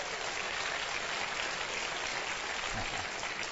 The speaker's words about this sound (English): Is that rain I'm hearing? Praise the Lord. Our prayers have been answered.